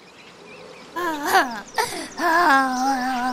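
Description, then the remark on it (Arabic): A voice acts out an old fox crying and sobbing alone after the birds and other animals refused to talk to it: after a quiet second, wavering wails rise and fall, break briefly with a sniffling catch, then resume in a longer, sustained sob. “أحبائي، بعد أن رفضت العصافير وبقية الحيوانات أن تتكلم مع الثعلب العجوز أو تقترب منه، جلس المسكين لوحده يبكي ويبكي.”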